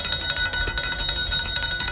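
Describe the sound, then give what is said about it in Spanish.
A loud bell rings continuously to mark a company's stock market listing on the Spanish small-business exchange in March 2022. Its clapper strikes in a rapid, steady rattle that sustains bright metallic overtones for the full two seconds, with no voices present. “Y con el sonido de la campana, en marzo del 2022, Vitrus Biotech culminaba su trayectoria con la salida a bolsa de las pymes españolas, el BM Growth.”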